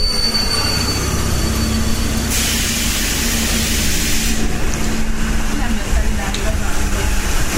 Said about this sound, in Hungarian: Jön is a metró. Jön a metró.